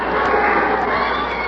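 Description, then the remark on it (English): A large crowd cheers and roars steadily at a boxing match, a dense, loud wash of voices that holds at the same level throughout with no single voice standing out. “Oh, they're with me. The crowd's with me.”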